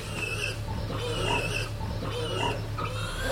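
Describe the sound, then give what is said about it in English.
A sow on a farm grunts and snuffles repeatedly in short, low, rough bursts over a steady low hum, with a few higher squealing tones mixed in and no one speaking. “You can see her, what a nice bum she's got, and that's the hams, and that's what you look for, as well as a long back, which is more pork chops.”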